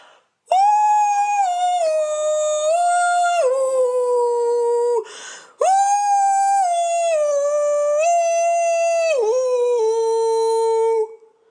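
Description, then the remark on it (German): A dog, Hatze, howls along to the car radio in two long, loud, unbroken phrases, its siren-like pitch sliding up and stepping down with a short breath between them. No one speaks. “Es klingt ein bisschen so wie eine Feuerwehrsirene, in die jemand Zuckerguss gekippt hat.”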